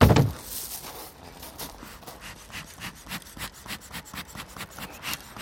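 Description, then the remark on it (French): A beekeeper's smoker, used to smoke the bees before taking their honey, in the Paris region of France, puffs in quick, steady breathy bursts, a rhythmic chuffing rasp after a brief loud thump at the start, repeating many times with no voices. “Fait très bien la locomotive à vapeur, mais alors qu'en fait c'est simplement l'enfumoir qui est tout à fait nécessaire pour dire aux abeilles coucou, j'arrive et vous allez me laisser prendre votre miel, quoi.”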